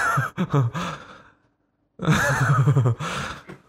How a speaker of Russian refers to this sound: Блин, тяжело дышать так с носом.